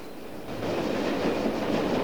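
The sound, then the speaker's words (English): A train rumbles steadily along the tracks as it travels cross-country, a dense, continuous rattle and clatter of wheels that swells slightly after the first half second and stays loud throughout, with no voices. “The train rattles on cross-country.”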